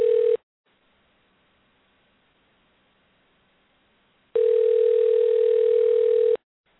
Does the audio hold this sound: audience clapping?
no